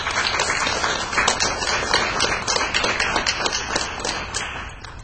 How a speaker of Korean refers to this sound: 아주 이렇게 박수 치죠.